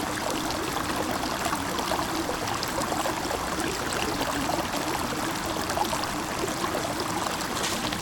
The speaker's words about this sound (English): I mean, there's the stream that runs down through the Crocs Bottom.